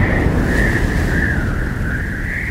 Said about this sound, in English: It's getting worse. I've never seen a storm like this, boat. Oh, I'm not sure I am either, Cap'n. Here's another wave. Duck down.